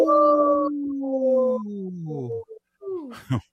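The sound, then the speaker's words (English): A wolf lets out a long, loud howl that slowly slides downward in pitch, followed by a few shorter, wavering howls and a brief sharp yelp at the end. “Hey, in this portion of the show, we'd like to bring awareness to our Minnesota wolf population.”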